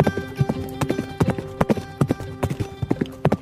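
Horse hooves clip-clop steadily on a village road in the green valleys of Paharpur at sunset, a horse named Badal following behind a car, a quick, regular trotting rhythm of sharp knocks, clear with no voices.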